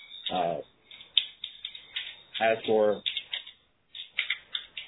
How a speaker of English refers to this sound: I see your name at the top as an active speaker, but I only hear typing, which means we are hearing your typing.